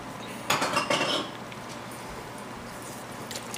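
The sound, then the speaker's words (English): Chicken is added to a pan with ginger and garlic: a brief clatter of food and utensils hitting the pan, lasting under a second, followed by a steady, soft sizzling hiss that carries on alone with no talking. “So in my pan, I'm just going to add a little bit of ginger and garlic. I'm going to go ahead and add my chicken in here.”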